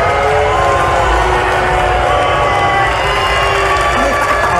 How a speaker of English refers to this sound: Here he is getting booed off by the tennis crowd in Atlanta. But unfortunately, due to an injury, Mr. Kyrgios is retiring from the match.